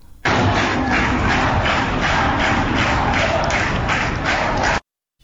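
Students at the University of Guilan, gathered in the grounds of the engineering faculty in the morning, clap hands in protest in a steady, rhythmic unison beat, dense and loud, sustained for several seconds before cutting off abruptly.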